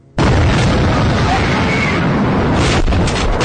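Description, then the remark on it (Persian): A loud explosion bursts in suddenly and keeps roaring as a dense, rumbling blast that fills the whole clip, powerful, with no voices. “با شنیدن صدای انفجار هشت شش نفر میخوابن روی زمین.”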